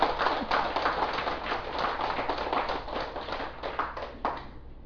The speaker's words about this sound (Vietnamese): Cho nên xin quý vị vỗ cho một tràng pháo tay.